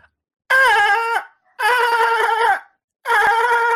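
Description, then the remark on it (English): A human voice imitates a dolphin in a 'dolphin-off' on the show Highly Questionable, with three loud, shrill squeals, each lasting about a second with a wavering, trilling pitch, separated by brief silences. No speech. “And I had to actually show what a dolphin sounds like.”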